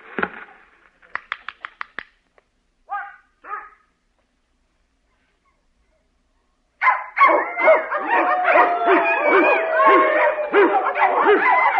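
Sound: dog barking excitedly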